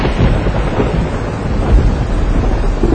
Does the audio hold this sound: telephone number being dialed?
no